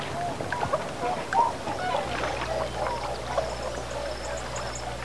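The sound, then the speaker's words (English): A large frog sitting on a rock in a river at dawn croaks repeatedly in short, uneven bursts against a quiet outdoor background, with a low steady hum joining partway through and faint bird-like chirps higher up. “Guess to lots of people, bird song is the first sign of spring, but for me, it's the croaking of the frog.”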